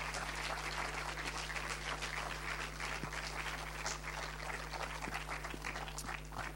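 Steady applause from an audience, a dense crackle of many hands clapping at an even level throughout, with a low hum underneath and no voices.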